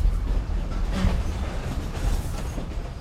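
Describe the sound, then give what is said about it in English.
A train rumbles steadily along the rails on an embankment through green countryside, a continuous low, heavy roar with faint rhythmic clatter, fairly loud throughout. “the train trundles along an embankment through verdant countryside.”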